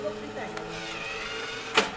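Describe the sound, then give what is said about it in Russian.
A small homemade ball-launching machine, still being developed, whirs steadily, its tone holding level, with a faint voice in the background and a short sharp burst of noise near the end. “Да, машинка разрабатывается потихоньку.”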